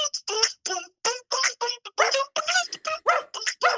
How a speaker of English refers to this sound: Dogs getting louder.